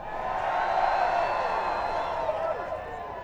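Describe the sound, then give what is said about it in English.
An audience yells together in one sustained, roaring burst of overlapping voices, loud and steady for about three seconds with a few higher whoops rising out of the mass. “How many people want to yell right now?”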